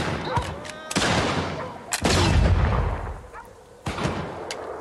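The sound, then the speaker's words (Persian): A cannon built for Kaiser Wilhelm booms out in a handful of heavy, irregularly spaced blasts, each a sharp crack followed by deep rumbling that lingers and rolls between shots. “تفنگش تغییر ندادن، یه توپ براش ساختن.”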